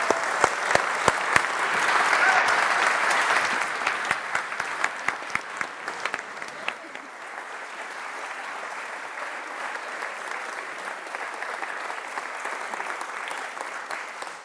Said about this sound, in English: So if everyone could, with me, give a massive round of applause for our SDA 2019 award winners.